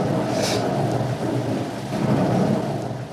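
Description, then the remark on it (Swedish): A thunderstorm in a rainforest with lightning and steady heavy rain pouring down, a deep continuous rumble of thunder rolling underneath the dense hiss of rainfall, loud throughout with no voices. “Och nu blixtrar det så hela regnskogen lyses upp här.”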